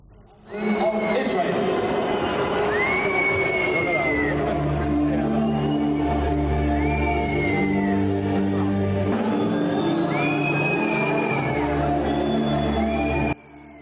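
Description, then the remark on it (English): A large stadium crowd of protesters jeers and boos loudly and continuously at the Israeli national anthem at the Olympics, before a football match between Israel and Paraguay, with whistles rising above the din, while the anthem plays underneath for about thirteen seconds. “The protesters have booed the Israeli anthem at the Olympics amid growing anger over the regime's participation in the Games.”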